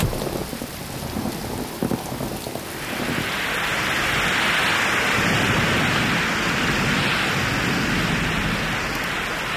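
heavy rain falling

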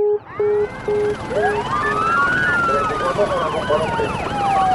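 police car sirens arriving

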